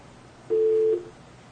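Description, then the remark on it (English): A single steady telephone busy-signal tone sounds for about half a second, clear and fairly loud, then cuts off, leaving faint background hiss. No one speaks. “Is there just a redial on there?”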